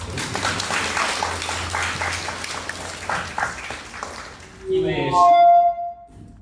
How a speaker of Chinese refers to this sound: 那么下面就让我们用热烈的掌声欢迎孙和先生。